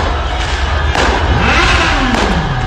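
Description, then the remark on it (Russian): A powerful hypercar engine revs up and then winds down, its pitch rising and falling once, through dense outdoor crowd noise and dull thuds at a street celebration with singing crowds, flares and fireworks in Morocco. “Кто-то завел свой гиперкар. О, слышите, как он? Или там мотоциклы.”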